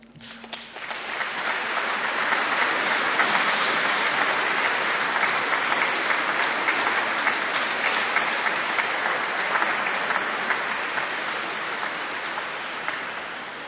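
A crowd bursts into sustained applause for the people who worked on a house renovation, a dense steady clatter of many hands clapping for over ten seconds before slowly thinning toward the end, with no talking over it.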